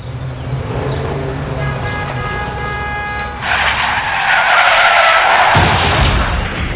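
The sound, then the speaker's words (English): Tires screech in a loud, high-pitched skid, then a burst of harsh noise hits as the car crashes, followed by a few seconds of rushing, scraping clatter. No one speaks. “This can't be happening. Look at my car.”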